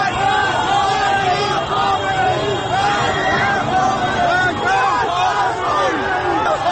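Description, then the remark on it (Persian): A large crowd of protesters against the 88 election results, among Ashura day mourners on Azadi Street at the start of Jeyhun, with riot police lining the street, suddenly shouts and yells together while moving toward the main street: a dense, continuous roar, many voices overlapping with rising and falling cries, steady and loud throughout. “جمعیت ناگهان صدای فریادش بلند می شود و به سمت خیابان اصلی حرکت می کند.”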